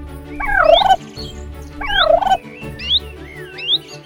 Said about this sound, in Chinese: 前方传来吱吱喳喳的声音，是鸟叫吗？却又好像是一群动物嘈杂的声音。